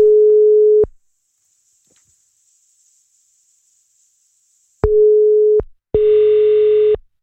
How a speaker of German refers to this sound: Es klingelt. Immerhin.